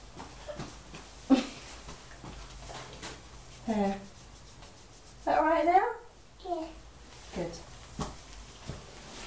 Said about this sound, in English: A doggy. A doggy.